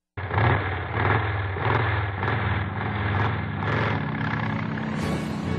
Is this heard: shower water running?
no